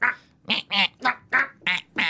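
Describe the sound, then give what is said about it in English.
A voice imitates a penguin with six quick, nasal quacking squawks in a steady rhythm, each one loud, with short pauses between and no other talking. “What does a penguin sound like? Okay, you do that, and I go...”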